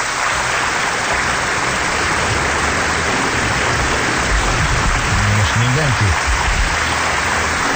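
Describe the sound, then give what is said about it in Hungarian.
Steady, modest applause from an audience, a dense even patter of clapping that continues throughout, with a voice briefly heard over it near the end. “Ja, hát ez ilyen kis lájtos. Miért vagy te ilyen lájtos? Adj egy kis tapsot még.”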